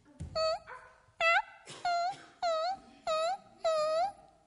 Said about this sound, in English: What did he hear? A dog whining. And he looked around, and he saw the most pathetic-looking creature you have ever seen in your life. His tongue was hanging out.